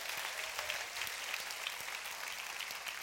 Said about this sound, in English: So please give the Lord a shout and a clap and thanks for all that he's accomplished.